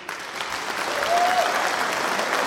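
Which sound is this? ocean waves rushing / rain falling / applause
applause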